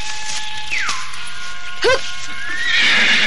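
A horse neighs in a high, quavering whinny that slides downward, followed by a short snorting burst and another rising, trembling cry at the end. No one speaks.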